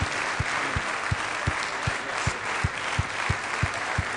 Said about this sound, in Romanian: Why don't you give Jesus a big hand? Dacă ești așa de bucuros că ești în biserică, hai să-L aplaudăm pe Iisus Hristos, motivul pentru care suntem în dimineața asta.